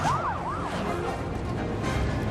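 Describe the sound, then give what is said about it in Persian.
A police siren whoops in quick rising and falling sweeps over a steady wash of road noise, then fades back into the rumble after about a second. No one speaks. “ای وای صدای آژیر پلیس گیر افتادن”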